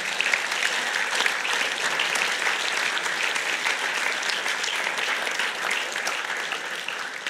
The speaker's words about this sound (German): Komm, lasst uns doch mal einen riesen Applaus geben für die.